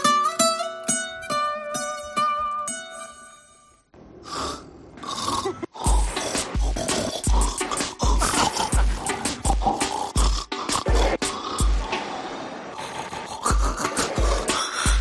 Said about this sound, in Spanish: esta señora que estuvo grabando durante 4 años los ronquidos de su marido, y el sobrino de los dos, pues ha hecho una mezcla que es imposible, imposible. Estuve filmando a mi marido cada vez que roncaba, mezclándolo de una forma especial, salió esto.